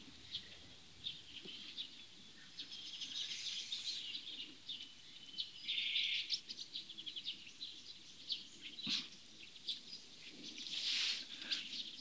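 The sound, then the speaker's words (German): A bird sings on and off in the background, bright chirps and warbling phrases scattered over a quiet outdoor hush with a faint low rumble underneath; no one speaks. “Ich lasse kurz Pause, denn wir hören einen wunderbaren Vogel im Hintergrund.”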